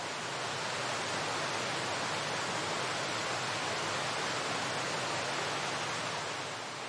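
A steady, dense rush of falling water from a waterfall, roaring evenly without pause and with no voices or other sounds.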